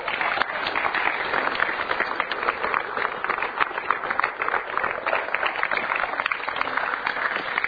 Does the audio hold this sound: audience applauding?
yes